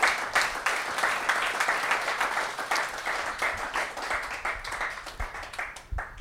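Sustained applause from a church audience giving God a big hand, a dense crackle of many hands clapping together at a steady, fairly loud level for several seconds before tapering slightly at the end, with no voices.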